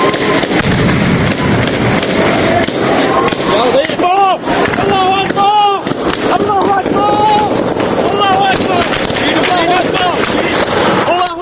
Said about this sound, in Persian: سیاه میشه و فقط صداهاست که شنیده میشن. صدای گلوله و فریاد مردم.